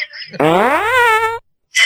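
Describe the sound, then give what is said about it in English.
A single buzzy, mouth-made fart imitation about a second long, its pitch sliding upward before cutting off, followed by a short breathy burst of noise. “It's my fart mouth.”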